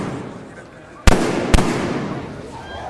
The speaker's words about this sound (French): Trois coups de feu et une clameur d'effroi qui s'élève au-dessus de la foule.